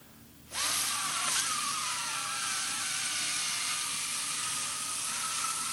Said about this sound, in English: Your balloon's leaking. Fuck! Oh, it popped.